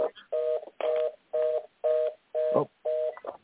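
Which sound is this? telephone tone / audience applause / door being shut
telephone tone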